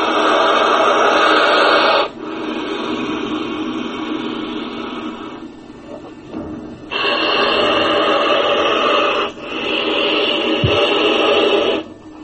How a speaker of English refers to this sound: And peculiarly enough, you know, most reptiles have no vocal cords. They can only blow and they can only hiss. The hissing of a snake, we all know. Listen to this blowing of a crocodile.